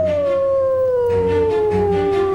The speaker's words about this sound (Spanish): pero ya se empezaba a oír los aullidos del lobo en el bosque.